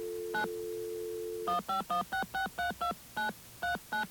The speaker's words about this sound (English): We have to first of all come in on the magic line like this. Okay, and that will allow us to dial out using magical touch tones.